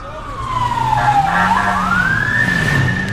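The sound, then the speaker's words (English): A loud siren wails as police motorcycles speed past, coming the other way on the other side of a car among rows of stationary cars, its pitch dipping and then climbing again over a steady low engine rumble. “More motorcycles speed by, coming the other way on the other side of the car.”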